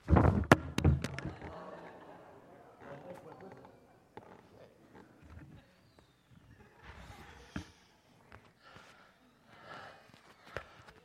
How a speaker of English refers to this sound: My wife says, you're not supposed to blow your nose on the stage. Well, when you cry like I do sometimes, you have no other options.